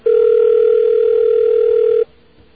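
A steady, loud electronic telephone tone, heard during a call to the Long Island Railroad, holds at one pitch for about two seconds, then cuts off abruptly, leaving a faint hiss.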